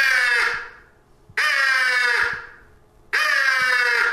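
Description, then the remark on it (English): Three long, harsh caws from a single crow in the early morning, one crow looking for another, evenly spaced with short pauses between them, loud, with no talking. “Crows that have separated at night and have roosted are now looking for each other as they start to wake up.”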